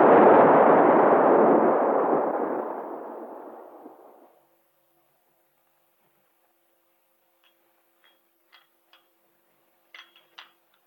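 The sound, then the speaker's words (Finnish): A loud, booming explosion erupts at once and rumbles away over about four seconds, followed by near silence broken by a few faint, scattered clicks. “Minä räjähdän.”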